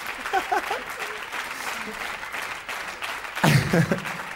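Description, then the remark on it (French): An audience applauds an artist on stage, a steady, dense wash of clapping that swells louder near the end, with a few voices calling out faintly beneath it. “Alors, reste, écoute les applaudissements.”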